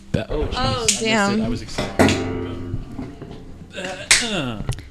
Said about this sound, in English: I'll give everybody high fives.